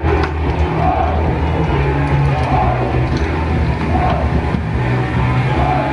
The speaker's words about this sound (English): So you can hear Sieg Heil, a crowd of men shouting, it sounds like, not the Nuremberg rally. This was recorded in a small village. Police estimate 800 people descended on the fields.